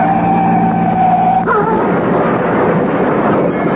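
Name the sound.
car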